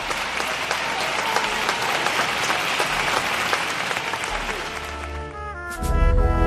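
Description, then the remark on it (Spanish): A large audience in Cádiz applauds steadily at the end of the pregón by the pregonero Iván Roa, a dense wash of clapping that stays loud throughout, with a swell of louder, fuller sound and low rumble in the last moment. “Así acababa, con los aplausos del gran Otro Falla, el pregonero Iván Roa.”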